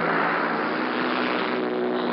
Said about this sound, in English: The sky now is full of the noise of these paratroop planes as they circle the aerodrome before they take their course.